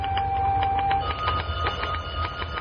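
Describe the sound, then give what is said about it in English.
A typewriter clatters away in a quick, uneven run of sharp key strikes as a secretary types letters in an office, with a steady low mechanical hum beneath and no voices. “Want me to stop typing, Roy?”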